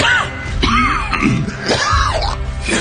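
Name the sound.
coughing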